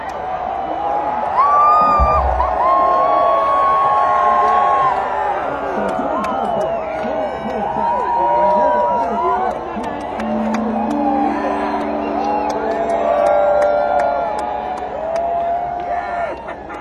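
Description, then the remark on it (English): A large concert crowd screams and cheers continuously, a dense wall of many voices with shrill high shrieks rising and falling throughout, loud. “and they want so badly for someone to be standing next to them, screaming their fucking heads off, so eventually they can do it too without feeling embarrassed, okay?”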